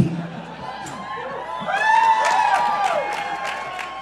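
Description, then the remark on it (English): A crowd applauds and cheers, steady clapping mixed with rising whoops and high, sliding shouts. The cheering swells around the middle and stays loud to the end, with no clear speech over it. “Is it because you're waiting until we've both introduced ourselves and then applauding for us both?”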